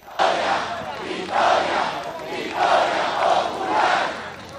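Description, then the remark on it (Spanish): A large crowd of Chavista supporters in Venezuela chants the slogan "¡Victoria!" in unison after winning municipal elections, their voices rising in four or five loud rhythmic swells that blend into a dense, roaring mass of shouting. “Hemos obtenido la gran victoria en las elecciones municipales y gritar la consigna ¡Victoria!”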